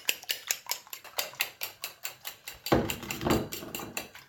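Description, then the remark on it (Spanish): Eggs being beaten with a fork for a tortilla (omelette), a quick, steady rhythm of light clinks against a bowl, joined partway through by a burst of louder hissing before the tapping continues. “Se baten los huevos para la tortilla.”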